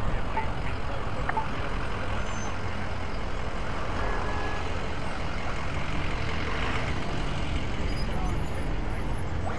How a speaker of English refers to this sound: Here's a lot of wind, so let's see how these mics do.